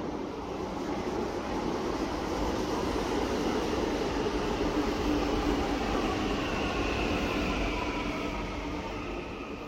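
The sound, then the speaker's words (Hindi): The last metro train of the night in Delhi runs steadily with a continuous loud rumble and rushing roar, unbroken throughout, with faint higher whine above the low-end drone and no voices. “यह आखिरी मेट्रो है।”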